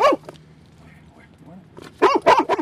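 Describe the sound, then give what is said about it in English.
A Labrador Retriever arson dog, trained to smell substances used to start fires, barks: a sharp bark at the start, then a quick cluster of three or four loud barks near the end, with a low, quiet stretch in between. “The friendly Labrador Retriever is an arson dog.”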